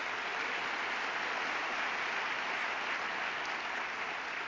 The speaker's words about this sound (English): We're very happy for the commitments that they've made, so give them a big round of applause for that.